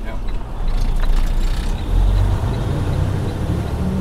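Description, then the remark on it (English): Steady low engine rumble and road noise fill the cab of a self-driving Freightliner Cascadia truck in motion on Florida's Highway 27 through the Everglades, with occasional creaks and rattles over the continuous drone. “I was sitting in the back of a cabin, on a bed actually, in a Freightliner Cascadia.”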